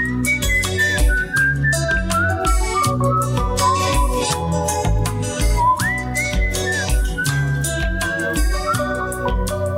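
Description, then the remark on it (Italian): A person whistles a bright, wavering melody at the end of a song over a full band backing of bass and drums, the whistled tune running steadily and prominently through the whole stretch. “al fischio alla fine.”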